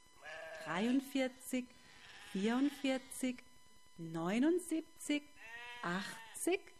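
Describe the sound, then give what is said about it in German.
A shepherd's sheep bleat, about four wavering, drawn-out cries in a row, each trailing off into shorter quavering notes, with brief pauses between and no other sounds around them. “Bevor er schlafen ging, zählte der Schafhirte seine Schafe, um sicher zu sein, dass alle da waren.”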